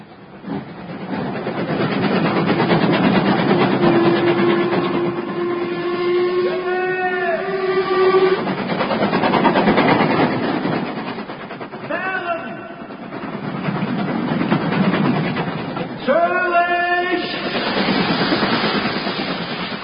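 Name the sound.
train running on rails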